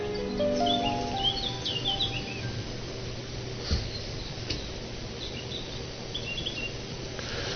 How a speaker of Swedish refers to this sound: Nu har värst vad fåglarna blir starka här.